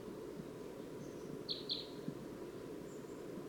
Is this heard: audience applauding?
no